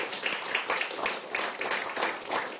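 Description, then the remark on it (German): An audience applauds a speaker at the close of his talk, a dense wash of many hands clapping at a fairly even, moderate loudness throughout, with no voices standing out. “Und jetzt gerne Applaus.”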